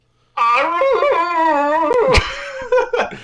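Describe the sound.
A person imitates a wolf howl with one long, loud, wavering cry, its pitch sliding and quavering before breaking into a few shorter yelping bursts at the end.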